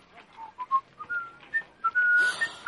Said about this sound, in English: But I'll whistle you a tune.